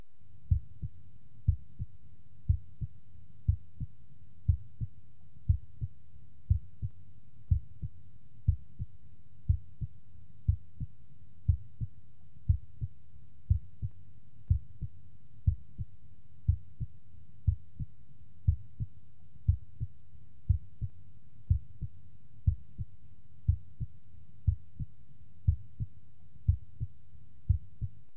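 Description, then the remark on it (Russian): A steady, regular normal heartbeat heard through a stethoscope at the apex of the heart, with paired low thumps repeating about once a second: two close beats, the first louder than the second, with the short pause being systole, then a longer pause (diastole), with no voices. “Прослушайте нормальные тоны сердца на верхушке.”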